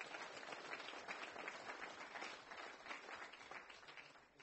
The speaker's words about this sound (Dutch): Ook voor jou een applaus.